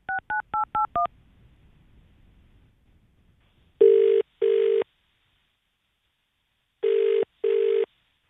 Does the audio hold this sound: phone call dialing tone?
yes